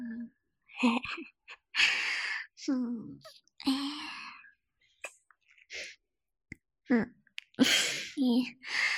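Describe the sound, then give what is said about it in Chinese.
A series of abrupt, breathy hiccups, about eight of them at irregular intervals, each a sharp gulp of air with a short voiced squeak, separated by brief silences. “不会，我就是打嗝频繁了一点。”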